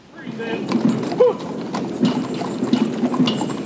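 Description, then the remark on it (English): Horse hooves clip-clop in a steady, uneven rhythm over pavement as horses draw a caisson bearing a flag at a memorial, with a brief whinny-like tone and a murmur of crowd noise in the background. “And there was the horse-drawn caisson with the flag, with the full military band.”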